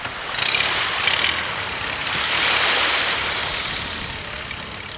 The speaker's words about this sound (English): Onyenuevo Island is one of their few nesting places in the United States, so we're all zipped tightly into wetsuits and crashing through waves in this tiny boat.